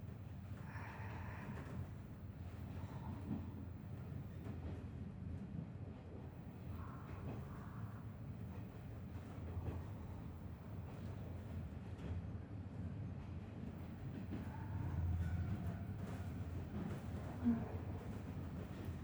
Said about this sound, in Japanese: 客車そのものの立てる音を、レールの歌う声を楽しみたいなら、ディーゼル牽引の方がいい。